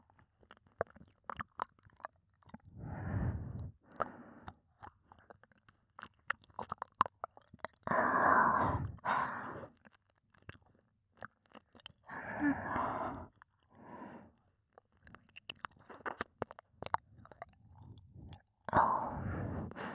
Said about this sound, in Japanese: 主人様のこと、できればもっと気持ちよくしたいです。お耳を舐めるのですか？はい、 やってみますね。